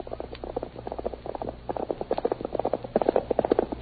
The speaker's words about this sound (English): Return with us once more to those thrilling days of yesteryear. From out of the past come the thundering hoofbeats of Silver. The Lone Ranger rides again.